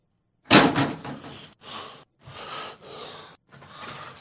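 A window being opened: a loud clunk, then four shorter bursts of scraping, rushing noise with brief pauses between them. No one speaks.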